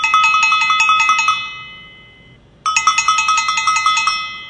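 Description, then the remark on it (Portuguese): An electric doorbell at the arraiá rings loud in two bursts of rapid metallic clanging, separated by a brief pause. No voices are heard. “A campainha do arraiá toca.”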